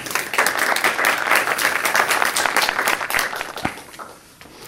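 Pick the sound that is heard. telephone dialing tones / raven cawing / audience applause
audience applause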